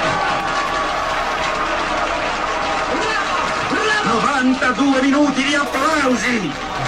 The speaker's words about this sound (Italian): Due minuti di applausi. Grazie.